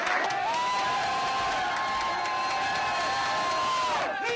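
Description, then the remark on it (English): A crowd of children cheers and shouts continuously in a gym, a loud, high-pitched roar with whoops and yells layered on top, holding steady for several seconds before tapering off. “Children cheer in a gym.”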